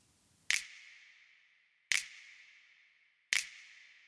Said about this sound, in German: Also hier ist der Send von unserem Kanal. Du siehst, ich habe hier sonst kein einzelnes Plug-in drauf, sondern einfach nur den Send auf den Hall, den ich vorbereitet habe. Und plötzlich klingt unser einsamer Schnipser so.